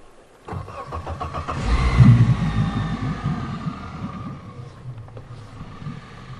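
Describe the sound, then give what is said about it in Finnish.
A car engine cranks and catches about half a second in, surging briefly before settling into a steady, low, quiet idle, in northern Åland. No one speaks. “Tässä on niin ihana hiljainen moottorin ääni.”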